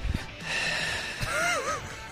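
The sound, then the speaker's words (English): Someone imitates heavy, raspy breathing into a phone during a call, a long drawn-out exhale with a brief voiced wavering tone near the end, with no words spoken. “somebody just breathed into the phone.”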